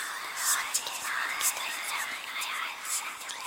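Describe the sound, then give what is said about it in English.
A soft, sighing, whispering sound of a crowd of aliens coming into focus, breathy and hissing, flows continuously for a few seconds with gentle swells and fades but no clear words. “There was a long pause, and then, at last, with a sighing, whispering sound, a crowd of aliens came into focus.”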